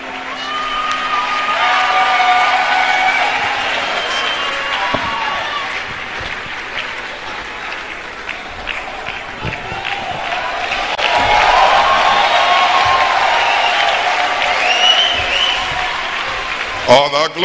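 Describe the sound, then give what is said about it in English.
An audience gives a clap offering for Reverend Dr. Chidi Okorafor, immediate past general superintendent of Assemblies of God Nigeria, clapping and cheering steadily for the full stretch, dense applause mixed with whoops and shouts, swelling loud near the start and again midway before tapering. “Give the Lord a clap offering for him.”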